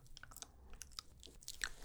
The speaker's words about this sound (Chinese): 好，只需要一直嚼它就行了，这个不用吞的哦。老师示范给你看看。